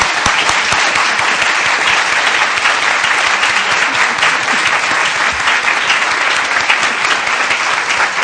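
Sustained audience applause at a Free Library of Philadelphia author event, a dense, steady patter of many hands clapping at an even, loud level for several seconds with no voices over it.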